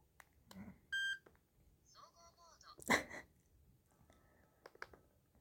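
A small electronic eye mask gives a short, clear beep, followed by a brief warbling chime and a sharp burst of noise, then faint clicks, all fairly quiet.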